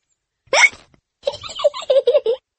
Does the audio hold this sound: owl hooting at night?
no